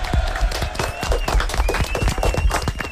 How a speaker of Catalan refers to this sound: Vinga, fort aplaudiment.